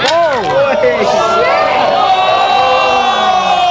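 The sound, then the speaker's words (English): A loud crowd cheers and whoops for several seconds at the launch of the iPhone 6 in Perth. Many voices overlap in high, sliding shouts that blend into a steady roar of excitement. “The crowd was going nuts. They were just going like totally gaga.”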